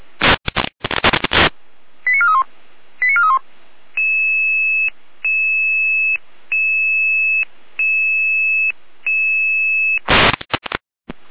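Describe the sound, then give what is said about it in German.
Radio alerting tones before a Red Cross ambulance dispatch to Bad Blankenburg: a burst of static, two quick warbling chirps, then five steady, evenly spaced electronic tone pulses, ending with another crackle of radio noise. Loud and clear, no voices. “Alarmierung für die Rotkreuz-Saalfeld 381 geht nach Bad Blankenburg”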